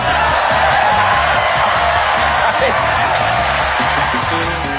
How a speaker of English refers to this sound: And the crowd goes wild.